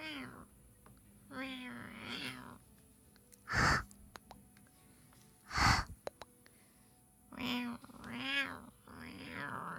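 A cat meows several times, a pair of drawn-out calls early on and two more near the end, with a couple of short breathy snorts in between.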